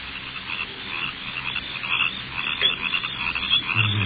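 A steady nighttime chorus of crickets chirping, dense and continuous with shimmering high-pitched trills layered over one another, heard alone with no voices and a faint low rumble underneath.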